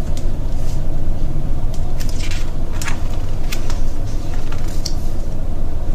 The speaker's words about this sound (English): The bus creaked to a stop in front of them. It sighed and sagged, and the doors swung open.